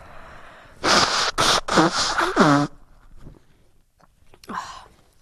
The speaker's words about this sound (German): Ich muss mal Nase putzen, Leute. Das ist jetzt richtig unangenehm.